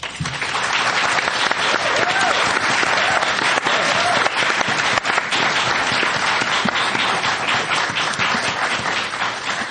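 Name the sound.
audience applause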